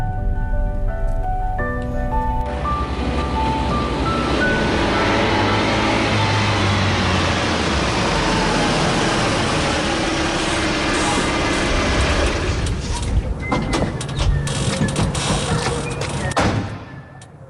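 car driving

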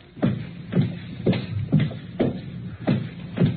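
footsteps walking

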